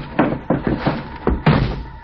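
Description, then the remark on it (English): A car's rear door slams shut amid a short run of heavy, muffled thuds: five or six dull knocks in about two seconds, the strongest landing near the end, with no voices. “Slammed the door shut, got in alongside of me.”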